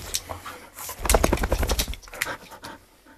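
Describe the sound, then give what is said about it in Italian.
A dog named Falco shakes its whole body after waking from sleep, a quick burst of rapid flapping and rattling lasting about a second, followed by softer rustling and shuffling. “Una scrollata così significa che non ha dolori addosso, né mal di testa, artrosi, altrimenti non lo faresti, giusto Falco?”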